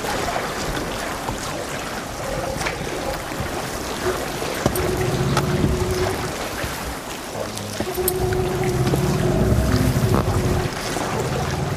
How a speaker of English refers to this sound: Even the noise of the water is great, hey?